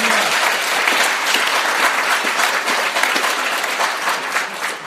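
An audience of Urals residents claps steadily throughout for those who travelled far to the meeting, a dense, continuous wash of many hands at a loud, even level with no pauses or voices breaking through.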